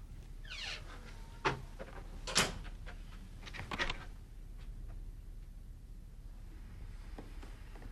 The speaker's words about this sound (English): Paul goes into the ensuite, locks the door, and goes to the toilet.